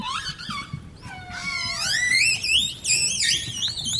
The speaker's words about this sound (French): Là, on a les sifflements des orques. On a aussi des clics et des buzz qui sont un peu différents.